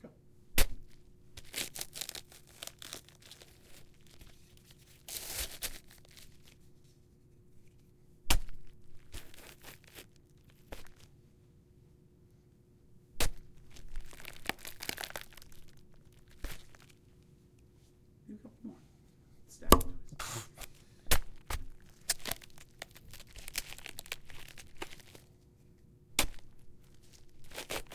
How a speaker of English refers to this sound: Cabbage patch stabs, take one. Give it a second. Wait for him to get off the plastic.